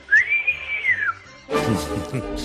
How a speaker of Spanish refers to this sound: A mí me recuerda más el silbido al toque de flauta de María José Navarro.